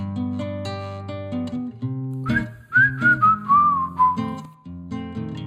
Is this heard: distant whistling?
yes